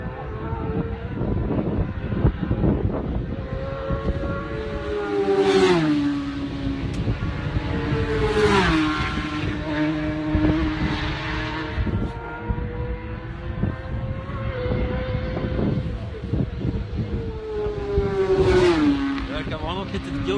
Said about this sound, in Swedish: Svacka någonting på den här rakan, för det ylar till motorerna strax innan de påbörjar inbromsningen. Ett yl som tyder på att bakhjulet lättar från marken. Det gör det ganska ofta på den här banan.